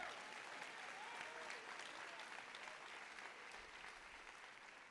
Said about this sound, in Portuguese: Vai ter frutos desse vale, pode aplaudir melhor, ele merece.